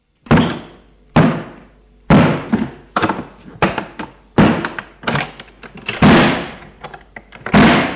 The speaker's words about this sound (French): il faut enfoncer la porte. C'est ce que fait le père.